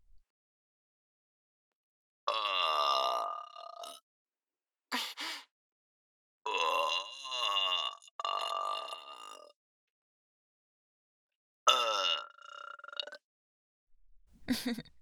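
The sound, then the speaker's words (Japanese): A woman lets out a series of long, voiced burps, some drawn out and others short, separated by brief silences, with a faint final sound at the end. “女性のゲップなんて初めて聞いたと思いますけど、想像以上にチンポに来ますよね。”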